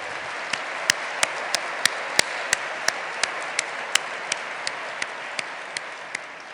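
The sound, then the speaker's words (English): An audience applauds steadily, a dense wash of clapping with a few sharp, louder individual claps standing out at regular intervals, holding a fairly even level throughout with no one speaking. The audience is thanking Walter Isaacson for his achievements at the Aspen Institute. “Please join me in thanking Walter for all that he has done.”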